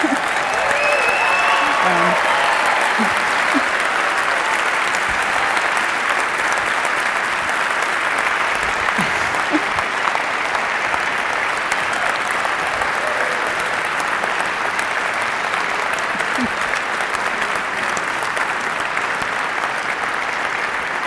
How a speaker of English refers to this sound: He does deserve a lot of applause because I don't think he's slept much in the last 3 months, actually.